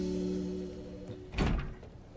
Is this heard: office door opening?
yes